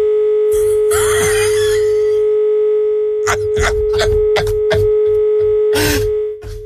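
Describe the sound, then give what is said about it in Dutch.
A steady, unbroken mid-pitched phone line tone drones throughout, interrupted by loud bursts of harsh crackling static and garbled distortion, after the connection of a phone call is broken. “Ja, toen werd de verbinding gebroken.”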